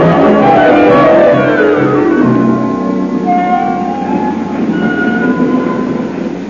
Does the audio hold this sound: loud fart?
no